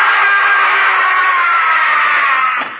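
A man lets out a single long, loud scream, held at a strained high pitch for nearly three seconds before it breaks off abruptly, with no other voices.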